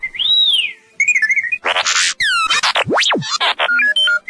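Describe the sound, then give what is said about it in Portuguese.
Sci-fi robot droid beeping: a rapid, chattering series of electronic whistles, chirps, warbling trills and swooping tones, loud, with no voices. “Os sons distintos dos droides, como o bip-bip do R2-D2”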